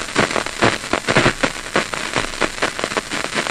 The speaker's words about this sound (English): You can hear this kind of snap, crackle, pop sound. These are individual cells that are firing. Right there, right one there. Of those. That kind of whooshing sound.